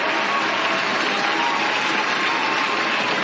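Steady, dense applause from a crowd, many hands clapping together in a continuous wash of sound that holds an even loudness throughout, with no voices.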